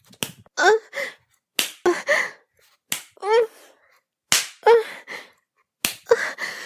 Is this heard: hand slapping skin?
yes